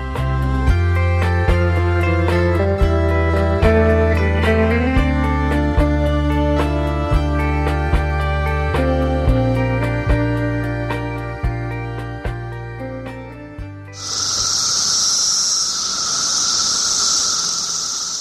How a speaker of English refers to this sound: Little sound of cicadas there, a huge crop of them emerging any day now, billions and billions. To cite a phrase, in an extraordinary crop this year.